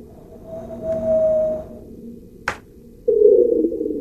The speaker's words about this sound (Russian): Марс. Ветер. Птица марсианская.